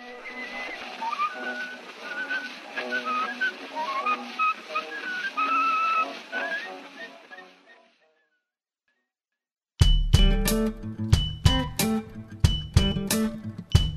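A thin, tinny early phonograph recording of a whistled tune, made for the Columbia Phonograph Company of New York and Paris, with a wavering melody fades out, followed by about two seconds of silence and then louder music with sharp percussive hits.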